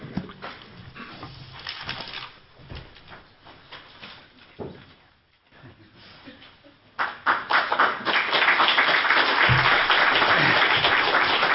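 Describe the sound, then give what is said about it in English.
An audience claps, starting with scattered claps and murmuring before swelling into loud, dense, sustained applause that fills the last several seconds. “I don't know if I'd be applauding.”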